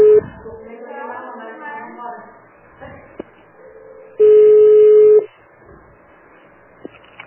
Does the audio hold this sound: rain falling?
no